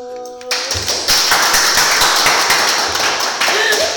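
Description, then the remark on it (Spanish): A short tonal sound gives way to fast, loud hand clapping that keeps going for several seconds, with a quick, steady rhythm of sharp, crisp smacks. “A mí lo que más me acuerdo y lo que más echo de menos es su magnífico fabuloso aplauso.”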